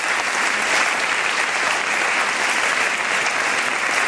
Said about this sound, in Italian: Ma mi sembra giusto ricordarli, e ricordarli con l'unico modo simbolico con cui si può ricordare con affetto un sacrificio, che è quello di un applauso. Un applauso per Falcone, un applauso per Borsellino.